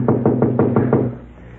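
Six quick, evenly spaced knocks rap firmly on a door, followed by a brief low hum as the knocking stops.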